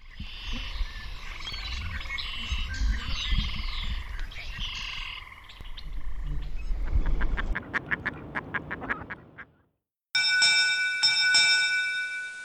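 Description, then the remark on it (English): A medley of animal sounds you might hear in a Virginia wetland: a dense chorus of frog calls, then a steady run of loud pulsing croaks and quacks, a brief silence, and a sustained high, buzzy trill. “We close with a medley of animal sounds you might hear in a Virginia wetland.”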